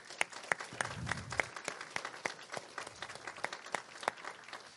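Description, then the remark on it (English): An audience breaks into applause, many hands clapping in a dense, steady patter with sharper individual claps standing out, sustained throughout at moderate loudness with no talking over it. “Let's give a round of applause to the Lord for that.”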